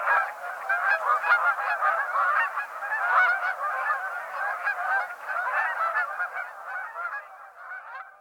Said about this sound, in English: The clamorous sound of Canada geese is a vocalization often likened to the barking of hounds.